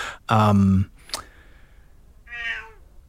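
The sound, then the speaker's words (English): A 15-year-old female cat meows twice: first a loud, drawn-out meow, then after a short pause with a faint click, a softer, higher-pitched meow. “I'm trying to raise this cat. She's pretty old.”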